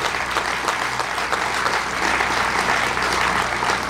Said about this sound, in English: Let's give him a big round of applause for what he has accomplished.